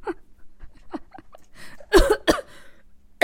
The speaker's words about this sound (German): Oh Gott, ich darf nicht lachen, dann muss ich husten. Ja, nicht husten.